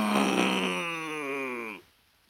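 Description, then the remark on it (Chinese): A human voice imitates a big bear's roar with one long, loud, drawn-out growling "aoo" that slides downward in pitch and then cuts off abruptly. “大熊，只听大熊啊，嗷！”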